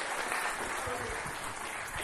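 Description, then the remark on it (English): An audience applauds the Lord after a prayer for the pastor, steady dense clapping holding a constant level throughout, with faint voices mixed into the crowd noise. “And give the Lord a mighty applause for touching Pastor.”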